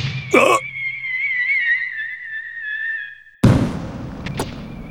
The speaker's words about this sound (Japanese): これは 花火。 きれ い。真冬の花火もなかなかいいっすね。でもなんで屋台から花火が。